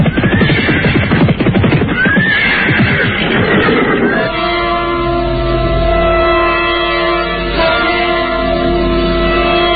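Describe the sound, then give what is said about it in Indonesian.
Galloping horses carrying riders, heard from afar, pound in a dense, rapid clatter of hoofbeats for about four seconds, then give way to steady, sustained droning tones that hold to the end. “Ketika mendadak, dari jauh terdengar derap orang-orang berkuda.”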